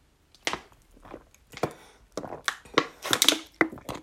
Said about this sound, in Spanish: Ay, perdón, estaba tomando agua.